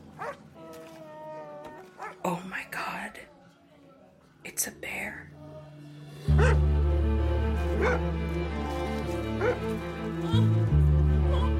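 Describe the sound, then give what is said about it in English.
A guest's dog that has gotten out into the yard barks in several sharp bursts and whimpers, with whispering voices. Partway through, a loud, low sustained rumble swells up and carries on beneath the sounds. “It seems maybe one of the guests' dog has gotten out.”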